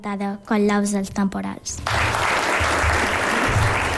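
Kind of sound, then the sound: crowd, applause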